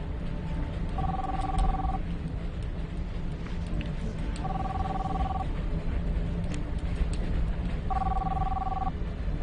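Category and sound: signal or alarm, telephone ringing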